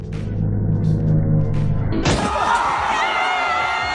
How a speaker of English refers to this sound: why are you crashing another table?